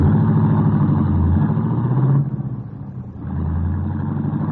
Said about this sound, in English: as the lights of the city grew brighter and the sound of the late midtown traffic met his ears.